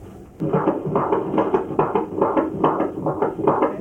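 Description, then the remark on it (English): A fetal heartbeat on a doppler monitor during a pregnancy checkup, a fast, steady whooshing pulse repeating about two to three times per second, loud, with no voices. “We're gonna listen to the heartbeat now.”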